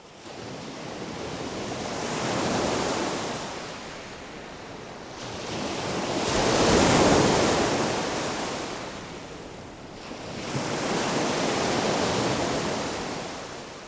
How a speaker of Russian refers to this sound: Как тут-то в озере вода всколыбалася, показался царь морской, вышел со Ильмени со озера